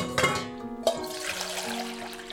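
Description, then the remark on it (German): Water is poured in a steady, gurgling stream for a couple of seconds, moderately loud, with a soft sustained musical tone underneath; priests are pouring the water into the holy vessels of the Temple. “Jetzt haben die Koihanim genommen die Wasser. In sei haben es herangegossen in die heilige Keilem von die Beis Hamikdash.”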